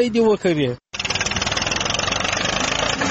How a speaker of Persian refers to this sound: اینجا در ولسوالی گرشک هلمند در یک ویدیو دیده می شود که طالبان با استفاده از تراکتور و موتر رنجر یک مزرعه کوکنار را تخریب می کند.